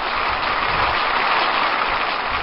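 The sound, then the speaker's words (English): A played recording of applause: a steady wash of dense clapping from many hands, blurring into a continuous crackling roar at an even loudness throughout, with no voices. “We're playing some applause.”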